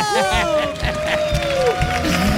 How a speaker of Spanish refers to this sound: Y ya tenemos aquí a nuestro primer protagonista. Fuerte el aplauso para Oliver Atom.